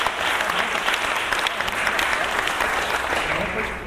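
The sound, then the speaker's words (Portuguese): Steady, dense audience applause at an album launch event fills the whole stretch, a loud continuous patter of many hands clapping at once, with a faint murmur of voices underneath. “Aplaudiu ele, eu saí, a gente vai pra ele.”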